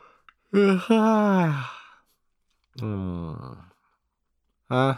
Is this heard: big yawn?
yes